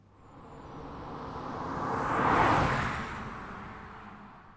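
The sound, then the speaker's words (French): A single car approaches, swells to a loud rushing peak as it passes, then fades away again. A smooth engine and tyre whoosh, with no voices. “Voiture.”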